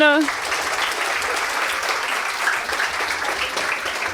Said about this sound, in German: Im Beta-Haus, genau, einmal Applaus für die.